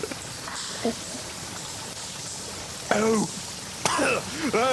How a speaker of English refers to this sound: But listen! Water! Danger!